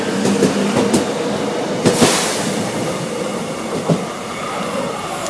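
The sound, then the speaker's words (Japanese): A subway train bound for Sodongtan station pulls out of a station, its broad rumbling roar steady, punctuated by sharp metallic clacks and bangs as the cars roll over rail joints. “はい、今、ソドンタン駅、行きの地下鉄が出発しました。”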